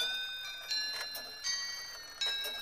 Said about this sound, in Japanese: あ、また間違えた。そんな調子外れな音聞かせるなよな。 なんだ、この時計狂っちまったのか。まだ昼には早いけど。 ここにも桃江さんを待っていた奴がいたか。 あやくん、そっか、この置き時計いつも桃江さんが手入れしてたから。